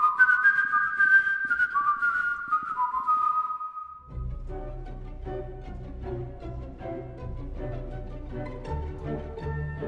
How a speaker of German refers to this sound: Es gibt nur ein Leitmotiv, eine einzige Melodie und die wird immer wieder gepfiffen. Sie wird zur Erkennungsmelodie, die schließlich den Täter überführt.